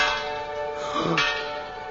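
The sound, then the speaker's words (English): A bell rings as an alarm, rung as someone passes through a guarded gateway, with a sustained, resonant metallic tone, its steady harmonics hanging in the air for a couple of seconds with a brief clanging strike partway through. “Now I've rung the front doorbell.”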